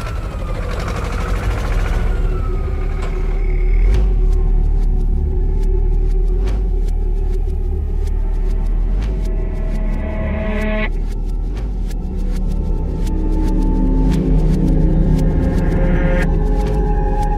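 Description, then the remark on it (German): A tractor engine rumbles steadily and loudly throughout, a deep continuous drone with tonal whines rising and falling and scattered rattling clicks on top, no voices. “Habt ihr was gehört? Nein. Da. Die Lichter. Wo? Der Traktor.”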